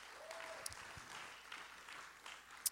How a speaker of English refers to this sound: Would you clap your hands one more time unto Jesus? Dale ese aplauso fuerte al Señor.